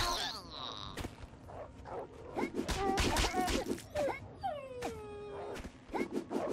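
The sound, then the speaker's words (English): A dying wolf whimpers and whines in high, sad cries, several drawn-out falling whines mixed with short yelps, fairly loud over sharp thuds and clatter. “I don't like that the wolves sound really sad when they die.”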